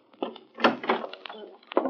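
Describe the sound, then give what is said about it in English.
A house door is opened to enter without knocking, with a series of short clunks, rattles and scrapes from the latch and frame over a couple of seconds, moderately loud. “Don't bother knocking.”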